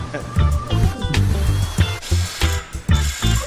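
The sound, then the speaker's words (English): A cordless power drill grinds and whirs in uneven bursts while drilling two holes to mount a tank, its motor pitch rising and falling with sharp catches and rattles, loud, with some background voices mixed in. “All we were trying to do was drill two holes so we can mount the tank.”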